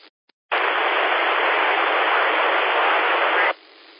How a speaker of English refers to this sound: Anybody listening on reverse that can pull that station out, go ahead and try it again. People listen on reverse, see if you can pick up the station that's down in the white noise.